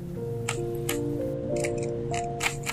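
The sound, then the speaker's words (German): A Rubik's cube is twisted by hand, giving a series of sharp plastic clicks at an uneven pace over a soft, steady musical drone. “du nimmst den Zauberwürfel entgegen und beginnst ihn zu drehen. Klick, klack, klick.”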